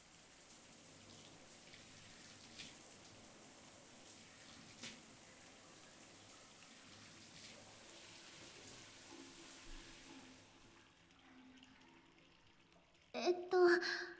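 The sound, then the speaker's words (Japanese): Steady rushing water pours for about ten seconds, like a shower rinsing soap suds off a person's scrubbed body, then drops to a quiet hush before a few brief louder bursts at the end. “じゃあ泡を流しちゃうね。”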